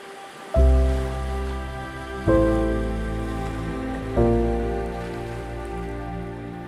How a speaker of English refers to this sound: Allow the sound of the waves to calm your mind.